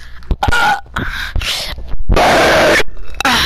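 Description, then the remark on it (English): A loud burp rumbles out amid a few short throaty vocal noises and breathy bursts, with no clear speech around it. “That was a burp.”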